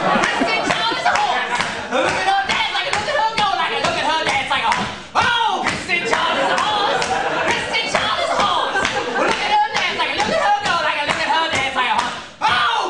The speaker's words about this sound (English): … does this maniacal singing and clapping. And Kristen is doing this horsey dance.